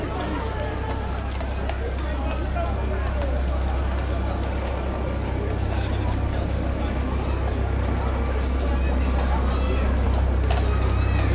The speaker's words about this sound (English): There's a police horse that's coming down the central reservation from north to south, so I'm nudging back a bit.